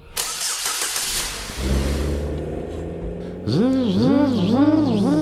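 A car engine cranks with a harsh whirring starter for a second or so, then catches into a steady hum, followed by a louder stretch of wavering, rising and falling engine tones.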